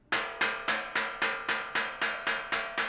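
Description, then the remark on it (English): A bow taps the flat metal top of a chair about ten times in a steady, quick rhythm. Each tap gives a bright, clanky, bell-like ring that fades briefly before the next. “The reason is because that flat piece of metal is kind of like the flat piece of wood that's on the front of a violin.”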